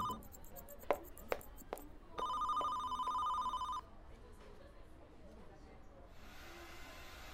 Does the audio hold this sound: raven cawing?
no